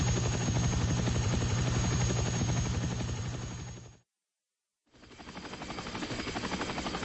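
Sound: helicopter flying overhead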